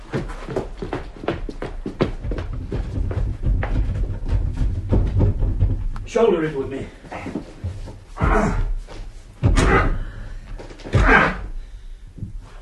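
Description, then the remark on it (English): Repeated heavy thuds as people try to shoulder open a stuck front door, a rapid run of dull blows followed by a few louder, spaced bangs, with some strained vocal sounds in between. “Shoulder it with me. It's not going to open, is it?”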